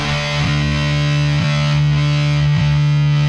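A loud, heavily distorted electric guitar holds a thick, buzzing chord, with brief re-strums about once a second, in the raw style of a punk rock song. No voices.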